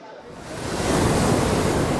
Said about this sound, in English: This is the sea off Moss Landing. This is where the whale landed on me.